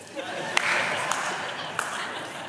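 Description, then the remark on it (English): Three sharp, isolated claps from one man in the audience ring out at irregular intervals over a steady, hissy background murmur, never building into sustained applause. “If you could not clap quite so much, dear brother.”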